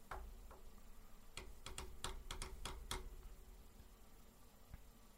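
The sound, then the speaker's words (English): A quick burst of about eight sharp keyboard clicks in an uneven rhythm, fairly quiet, with a few fainter taps before and after against a low background hum. “You're still typing.”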